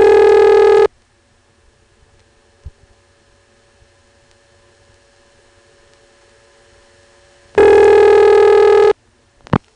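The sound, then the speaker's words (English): A telephone ringing signal from the Bowling Green exchange, heard down the line: two loud, buzzy bursts about seven seconds apart, separated by a quiet hissing line with a faint hum and a few small clicks. “We'll also get to hear the way the Bowling Green ring really sounds.”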